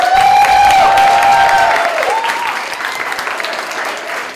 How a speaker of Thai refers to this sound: ขอเสียงปรบมือให้กับพี่โจ๊กไอศกรีมครับ